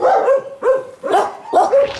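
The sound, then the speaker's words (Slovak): Several dogs bark in kennels at an animal shelter, a run of about four loud, overlapping bursts with mid-pitched, slightly whiny tones, no talking over them. “Poďme teraz medzi tie koterce sa aj my pozrieť s poslucháčmi Rádia Vlna, respektíve vypočúci, ako títo psíci znejú.”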